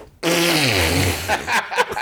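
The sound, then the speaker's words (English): A loud, drawn-out flatulent blast from a baby pooping, heard from across the room, a buzzing tone that slides downward in pitch, followed by a few shorter sputtering bursts near the end. “Huge, massive, massive screaming dump.”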